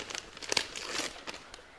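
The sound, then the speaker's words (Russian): A paper mail package for the boatswain is torn open in a ship's wardroom, a flurry of crisp crinkling and ripping bursts over a couple of seconds, with no voices during the rustling. “Пакет для вас, Боцман.”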